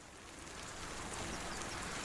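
Steady rain falls with a dense, even hiss that swells slightly louder over a couple of seconds. It is fairly quiet and continuous, with no voices.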